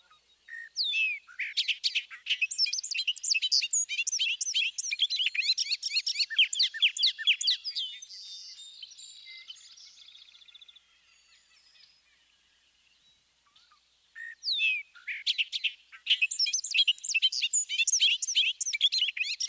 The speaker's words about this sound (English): Let's listen again to the bobolink's full song, which is also given in flight.